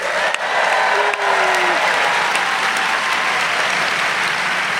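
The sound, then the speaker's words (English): Steady, loud applause from a large live audience at the Norse Theater in San Francisco, a dense wash of clapping that holds at an even level for the whole stretch, with no one speaking. “As you can hear, we are live. We're live at the Norse Theater in San Francisco in front of the largest crowd in GABFEST history.”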